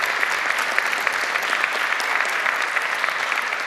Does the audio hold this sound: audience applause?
yes